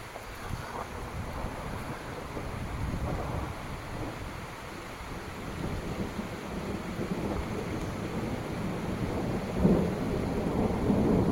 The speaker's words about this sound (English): Mom must be hearing the thunder and saying that I'd like it. I'll tell you a quick story between the thunders.